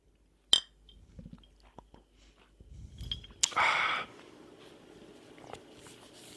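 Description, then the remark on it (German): Two glasses of a freshly opened sparkling drink meet in a toast in a single bright, ringing clink near the start, followed by quiet handling noises and a brief breathy burst, with no talking. “Ja, Prost. Prost.”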